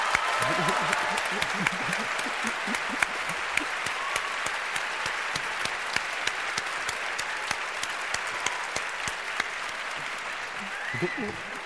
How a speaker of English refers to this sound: And to vote for Adam, please applaud now.